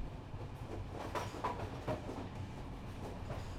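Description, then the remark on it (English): A train rumbles steadily along the rails with a low, continuous roar and a few brief metallic clacks and squeaks rising above it, with no voices. “I'm just like this train. I make little noises wherever I go.”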